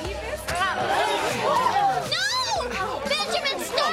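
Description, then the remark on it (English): A restless crowd murmurs in Benjamin's Inn at Bethlehem, many overlapping voices blending into a steady, moderately loud babble, with a few higher voices rising and falling throughout. “A restless crowd is gathered at Benjamin's Inn at Bethlehem”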